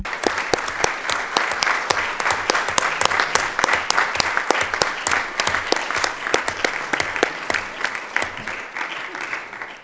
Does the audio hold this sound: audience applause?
yes